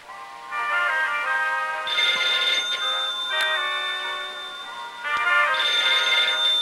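A telephone on a bedside table rings with a bright, trilling electronic tone, sounding in repeated bursts, with no one speaking.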